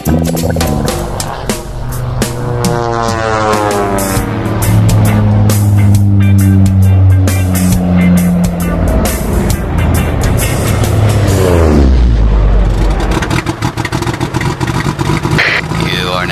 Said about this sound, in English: Whoa, kill the motor, dude.